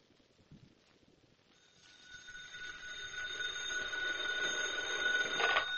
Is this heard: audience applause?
no